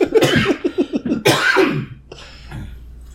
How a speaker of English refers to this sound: but we're coughing together now.